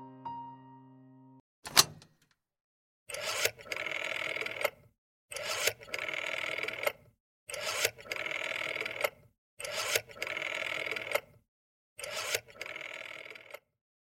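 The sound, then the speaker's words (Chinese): A steady dial tone hums, then a click, followed by six evenly spaced whirring, ratcheting bursts of a rotary telephone dial spinning back as a number is dialed, each lasting about a second with short pauses between. The phone has no buttons, only a dial. “阿西家的电话非常特别，没有按钮，只有一个转盘。”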